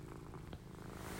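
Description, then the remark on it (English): A cat named Zoe purrs in a steady, low rumbling drone, recorded with a phone held beside her, soft and continuous with no voices, plus a brief faint tick near the end. “I'm hoping you can hear her purr. When I do that, I'm putting my phone by her little purring, beautiful self.”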